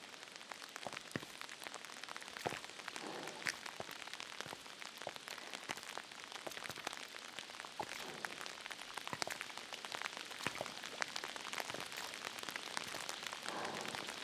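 Steady rain pours down, a dense hiss of patter with frequent sharper drops spattering and splashing on a hard surface, keeping up a fairly even intensity throughout with no voices. The rain is not letting up and seems to be getting a little heavier.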